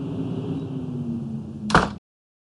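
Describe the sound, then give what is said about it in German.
A door shuts with a single sharp thud after a stretch of steady low humming background noise, and everything falls silent right after the impact. “Ich habe die Tür geschlossen.”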